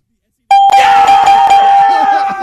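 sound effect, bell ringing

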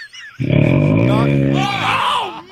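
human body sound, loud snoring

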